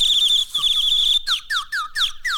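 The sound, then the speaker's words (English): A whistled imitation of a bird call: a steady, high warbling trill that breaks into five quick, swooping downward chirps, fairly loud, with no talking. “Or you may have to do a little bit of a bird call.”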